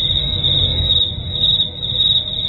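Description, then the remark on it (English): Crickets chirp in a steady, unbroken high-pitched trill that continues throughout, with a faint low rumble underneath and no voices. “It sounds like crickets now.”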